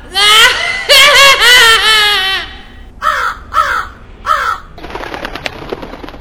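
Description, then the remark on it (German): A crow, the character Medivh transformed into a crow, caws loudly several times, first a run of long harsh calls, then three shorter caws spaced apart, followed by a burst of fluttering wingbeats as it flies away. “Vor den Augen unserer Freunde verwandelt sich Medivh in eine Krähe und fliegt davon.”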